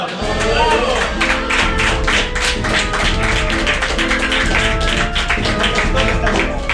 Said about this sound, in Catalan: Bueno, aplaudint un explotador de mainada.